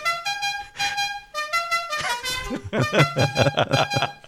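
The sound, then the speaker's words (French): Several car horns honk in overlapping bursts, loud, some long and steady, others short and repeated, with faint voices mixed in toward the end. “Tout ça avec le klaxon.”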